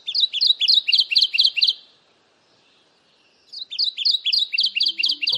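kentucky warbler singing

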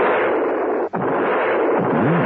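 rifle gunshots

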